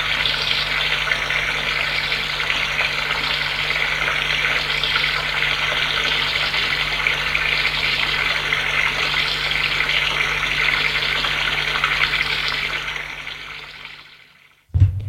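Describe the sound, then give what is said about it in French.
A shower runs steadily into a bathtub in a bathroom as a man takes a quick shower, a loud, continuous hiss of spraying water with no talking, cutting off near the end followed by a brief bump. “Il entre dans la baignoire et prend une douche vite fait.”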